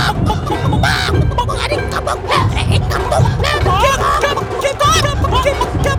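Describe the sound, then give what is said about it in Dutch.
A dense, busy chorus of hens clucking continuously, their short overlapping calls filling the whole stretch, with what may be a dog yapping in the mix. “Kip, hou een curry bij.”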